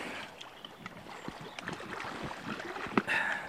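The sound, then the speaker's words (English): Boots scuff and kick through the bed of a shallow river while a net is held in the flow to catch small creatures, making a steady churn of splashing, gurgling water with irregular sloshes and a sharper splash near the end. “Okay, I'll just give that a bit of a welly with scuffing the bed.”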